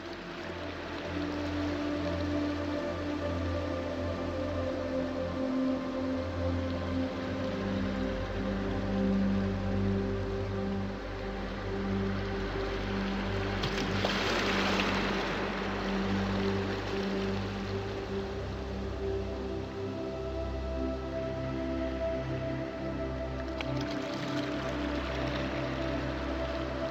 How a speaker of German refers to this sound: Das leise Rauschen des Meeres wiegt dich in die Tiefen der Entspannung.